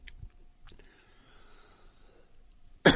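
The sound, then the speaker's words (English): Quiet throat rasping and breathy wheezing build up before a sudden, loud, harsh cough bursts out at the very end, caused by a small piece of peanut caught in the throat. “I've got a little piece of a peanut caught in my throat, folks.”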